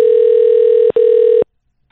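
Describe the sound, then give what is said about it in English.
A loud, steady telephone dial tone hums on while dialing out, cuts out for a split second, resumes, then stops abruptly, leaving silence. “I never have to do that when dialing out on these phones.”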